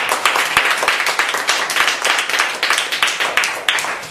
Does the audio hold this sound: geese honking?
no